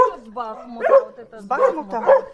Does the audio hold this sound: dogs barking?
yes